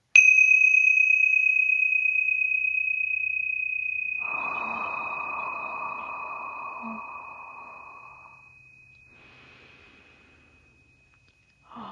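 Small tincture bells, rung to clear out lower vibrations, are struck once, giving a bright, pure ringing tone that lingers and slowly fades over several seconds, with a soft breathy hiss midway and another strike beginning right at the end.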